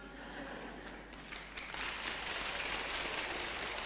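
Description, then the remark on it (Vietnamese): Water is poured for drinking in a steady, continuous splashing hiss that swells louder about halfway through and keeps running to the end, with no voices. “Rót nước để làm gì? Có phải để uống không?”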